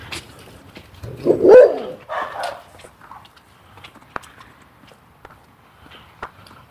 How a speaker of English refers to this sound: Oh, easy dog. Dogs. It's a big dog and a little dog.